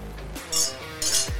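Two bright glass clinks ring out in quick succession, glasses touched together in a toast, fairly loud with a short shimmering decay.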